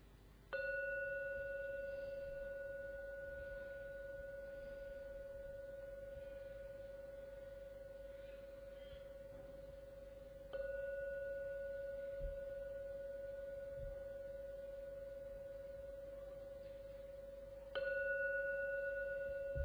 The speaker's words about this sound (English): Please listen to every sound from the gong. When the last sound from the gong vanishes, then come out from your meditation.